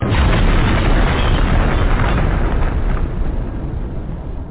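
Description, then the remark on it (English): A loud, deep roaring burst of fire, a pillar of fire shooting out at night, dense and rumbling with heavy low end, holding steady for several seconds before easing off slightly at the end. No voices. “A pillar of fire shot out in the night as a howl dissipated to the piglet's delight when a plume of gray ash from the wolf drifted alone, disappearing in the wood and the hail and the snow.”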